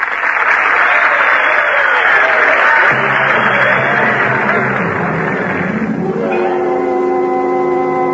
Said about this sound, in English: But, I say but, I can promise you the fall of San Antonio will be revenged. Now, for that you can applaud.